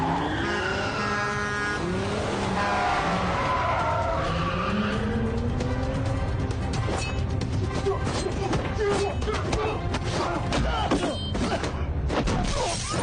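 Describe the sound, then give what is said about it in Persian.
Two suspect cars in pursuit approach, roaring with sustained tire squeals and skidding, rising and sliding pitches over a heavy engine rumble, followed by clattering mechanical bangs and crunches; no talking. “خودروهای مظنون دارن نزدیک میشن.”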